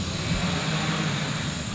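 The big engine at OSU's Wave Research Lab drones steadily as it makes a wave and sends water through a concrete tank almost as long as a football field, a loud continuous hum with a low tonal rumble and broad hiss underneath, holding even throughout with no voices present.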